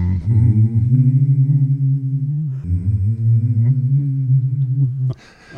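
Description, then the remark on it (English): A single voice hums steady, sustained notes that step up and down in musical scales, fairly loud, with a brief breath between two long phrases before a short noisy cutoff. “You were kind of humming scales.”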